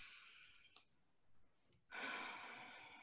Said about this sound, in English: So, but the one thing that we can do is take a slow deep breath. And that's why intuitively, a lot of times we will, you know, say to somebody, just take a deep breath, just take a deep breath.